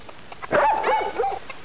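A dog barks in a quick run of high, yelping barks, fairly loud, with no voices alongside.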